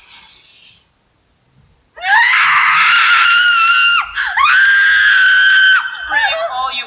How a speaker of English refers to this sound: It's funny in the fact that it wasn't like, I promise I won't scream, and she does. It's like, I promise I won't scream, but what she sees was so terrifying, she just screams so loud.